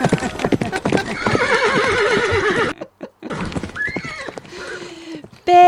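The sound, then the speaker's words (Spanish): Horses gallop with rapid hoofbeats while a loud, wavering neigh rises over them, followed by a brief pause and then more hoof clatter and shorter whinnies. “El caballo corre y el fuego foguea. Venus brilla y la manada galopea.”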